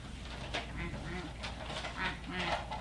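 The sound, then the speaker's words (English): A toy duck quacks repeatedly, a string of nasal, buzzy quacks in quick uneven succession, fairly loud over a faint room hiss, with no one speaking. “Want to look at this duck? Look at this duck?”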